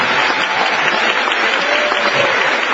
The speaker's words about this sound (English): And also, the campaign staff have done an especially good job. You know, Kent Snyder and Lou Moore and Joe Becker and everybody that has helped. They really deserve a round of applause.